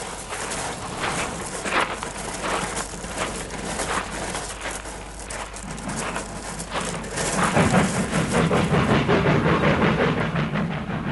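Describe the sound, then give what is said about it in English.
A train rolls steadily along the tracks on railway sidings, a continuous rumble with rhythmic clatter and hiss that swells louder and heavier toward the end, with no voices. “There's railway sidings over there.”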